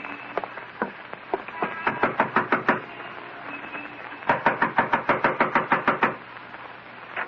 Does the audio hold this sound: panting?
no